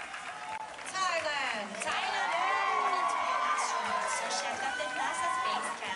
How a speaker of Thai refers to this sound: ครับเช่นเดียวกับกองเชียร์ชาวไทยจากทั่วสารทิศทั้งที่เดินทางจากรัฐอื่นๆในสหรัฐและเดินทางไกลจากเมืองไทยก็เดินทางมาร่วมส่งเสียงเชียร์ทุกครั้งที่ได้ยินการประกาศชื่อตัวแทนจากประเทศไทยเพื่อรวมใจเป็นหนึ่งลุ้นเชียร์ให้สาวไทยคว้ามงกุฎมิสยูนิเวิร์สได้สำเร็จครับ